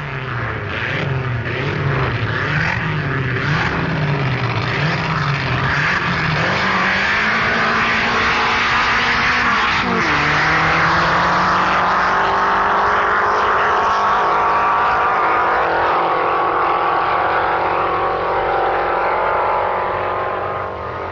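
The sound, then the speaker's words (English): Two Allard Dragon dragster cars, driven by Alan Allard and Dennis Jenkinson, roar down a drag strip, engines loud, their pitch climbing steadily with a sharp shift partway through before continuing to rise. The winning run took 11.32 seconds at a terminal speed of 129 miles per hour. No one speaks. “Alan Allard and Dennis Jenkinson drove two dragons in a run which took Allard, the winner, a mere 11.32 seconds, with an extraordinary terminal speed of 129 miles per hour.”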